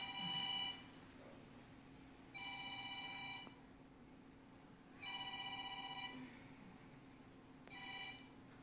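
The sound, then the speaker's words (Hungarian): A mobile phone rings with a bright, tonal ringtone in four evenly spaced bursts about a second long, moderately quiet against a low room hum, with no one speaking. “Akkor most mindenkinek van lehetősége lehalkítani a telefonját, még valaki nem.”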